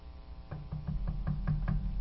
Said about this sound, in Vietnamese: Một lúc sau thì có cái tiếng giày sột soạt, thì nàng đành đánh bào để gõ khẽ vào cái cánh cửa.